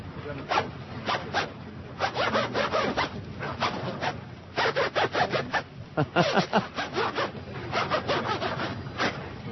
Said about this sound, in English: the Chicken Neck was kind enough to include for us on this disc the zipper drop. Excellent.